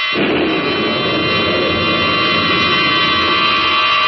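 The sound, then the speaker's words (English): A loud, steady jet engine roar of an experimental jet rocket aircraft rises within a split second and then holds, broad and droning with a whining high tone, filling the whole stretch with no voices. “Tonight, based on a famous story, The Outer Limit, by Graham Dorr, the tale of a pilot of an experimental jet rocket aircraft about to be hurled 40 miles out from the Earth's surface into the limitless boundaries of space”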